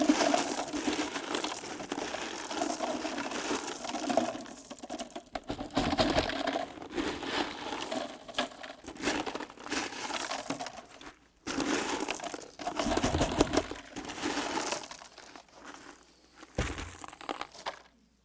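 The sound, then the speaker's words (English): Gravel is poured from a bucket into a jar and the jar is shaken, making a dense, gritty rattling hiss in uneven bursts with short pauses between them. No voices are heard. “And what he did, he poured the gravel in.”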